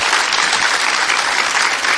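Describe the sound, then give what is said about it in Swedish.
An audience applauds a panel, a dense, steady wash of many hands clapping at once, loud and sustained from start to finish with no voices heard over it. “En stor applåd till våran panel här.”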